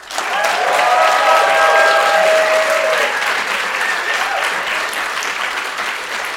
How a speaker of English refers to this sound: So, Paul Henley, welcome to Seneca at long last. Let's give a big round of applause to Paul.